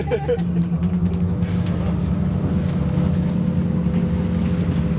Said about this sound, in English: Okay, so engines powered up. We're pulling away from the quayside and out to sea around these myriad islands on the west coast of Norway.